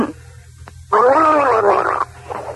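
A person gargles water for a gargling contest in one loud, sustained burst lasting about a second, a bubbly, voiced rattle with a wavering pitch, set apart by quieter moments before and after.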